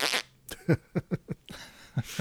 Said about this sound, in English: Insert fart sound effect.